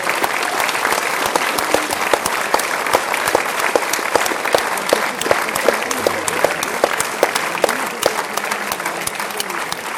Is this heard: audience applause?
yes